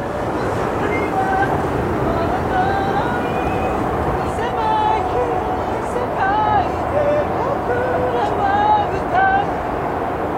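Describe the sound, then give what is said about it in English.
A person singing outdoors at an isolated spot by a river, across from the lit-up Sky Tree, sustained wavering notes rising and falling, carried over a constant low rumble of engine and water noise that fills the whole scene. “And I guess this place is isolated enough that you can come here to practice your singing, which I guess is what that was.”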